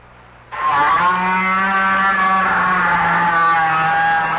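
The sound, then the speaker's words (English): A great big whale's loud, sustained buzzing drone deep down in the ocean kicks in abruptly after a brief quiet moment, rich and engine-like, with a rough, steady texture that holds until the end. “That's right, a great big blubbery old whale just buzzing and clicking and grunting away deep down in the ocean.”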